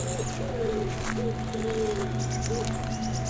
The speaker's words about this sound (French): Vous entendez non seulement des oiseaux et un bruit de fond, le vent. Et le ruisseau qui s'engouffre à travers ce dédale de chaos granitique.